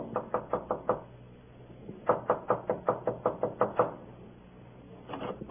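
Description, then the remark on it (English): Sharp knocks rap on a door in quick bursts: about five, a short pause, then a longer run of eight or so, and a few more starting at the end. Fairly loud, with no voices. “Oh, come in. Come in”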